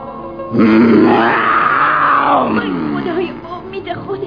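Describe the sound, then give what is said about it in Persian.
A voice imitates a lion's roar: one loud, drawn-out growling bellow that swells, holds for about two seconds, then trails off into lower rumbling grunts. “زن بیچاره که پیره، رفت تا رسید به شیره، قرش شیر رعداسا.”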